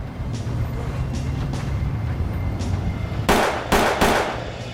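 Three sharp gunshots, fired by one of two young men on a neighbourhood street in the afternoon, crack out in quick succession near the end, cutting through a steady low rumble of street traffic. No one speaks.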